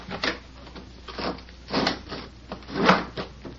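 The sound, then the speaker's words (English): A wooden window in a private room is shoved open in a few rough, scraping pushes, each a short grinding rattle with creaks in between, the last push the loudest. No one speaks. “Open that window, Pete.”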